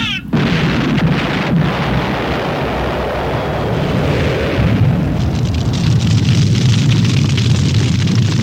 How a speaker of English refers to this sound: This is Les Hendelman, reporting from National Airport, where a jet plane has skidded on an enema bag and burst into flames.